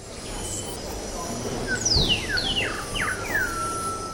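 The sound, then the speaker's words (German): Recorded birdsong plays on an endless loop during opening hours at the stairway up from an underground (U-Bahn) station, a series of thin descending whistles and chirps riding above a steady rumble of trains and crowd hubbub. “Seit der Renovierung vor ein paar Jahren wird das Vogelgezwitscher während der Öffnungszeiten dort in Endlosschleife abgespielt.”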